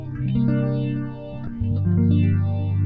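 Electric guitar run through a phaser, its sustained notes swirling with a slow, sweeping whoosh as a few held tones change pitch; loud and steady, with no voices.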